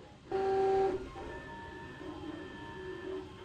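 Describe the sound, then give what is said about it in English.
A 3D printer laying down the first layers of a plastic rook chess piece: steady, pitched motor whines that shift tone as the head moves, with a louder buzzing burst at the start, heard alone. “That's the printer, and it has begun laying out the first couple of layers of this rook that we're, this plastic rook chess piece that we're building.”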